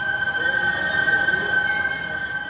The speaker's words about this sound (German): Dieses Pfeifen, das ist das Wasser der Seine, das durch die Filter in die schwarzen Rohre hier fließt. In den Filtern fließt sie schneller und deshalb pfeift sie.